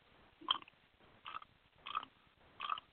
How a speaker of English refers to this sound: Somebody started chewing again or scraping on the phone, whatever noise in the background.